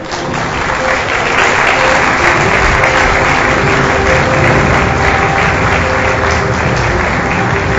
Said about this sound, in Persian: خواهش میکنم جناب آقای دکتر سانعی رو آنچنان که شایسته اسمشون هست تشویق بفرمایید.